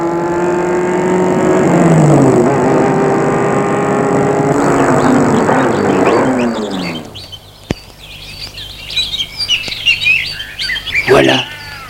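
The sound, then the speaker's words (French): A car engine runs loud with shifting harmonic pitch as the car pulls up and stops in front of a bus stop at the end of the Nationale 6 road, then cuts out after about seven seconds, leaving birds chirping and tweeting in the quiet that follows. “Le père Ducret va arrêter sa voiture devant l'arrêt du car.”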